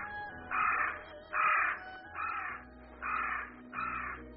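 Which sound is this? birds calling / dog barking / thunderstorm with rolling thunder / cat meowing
birds calling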